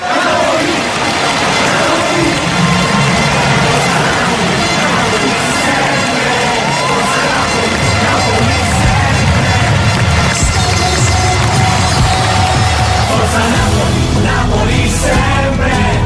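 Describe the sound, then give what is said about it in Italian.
A large crowd of Napoli football fans, heard from afar, shouts and chants in a continuous, dense roar that swells slightly toward the end, with no clear individual voices standing out. “Sento da lontano il grido della gente. Forza Napoli, Napoli sempre.”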